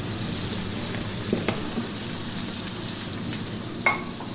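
Steady crackling sizzle of duck breast frying skin side down in a pan with butter and herbs, continuous, with a few sharper pops and spits breaking through the hiss.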